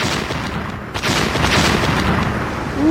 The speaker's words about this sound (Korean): 그는 우리 머리를 지나 반란군에게 날아가는 포탄에서 나오는 쾅 하고 벼락치는 듯한 소리와 침입자들이 갑자기 돌진할 때 나는 소리를 좋아했다.